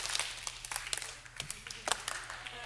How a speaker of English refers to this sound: On the count of three, I want you guys to clap once, a single time, and it has to be perfectly in unison. Okay? You ready for it? Ready? One, two, three.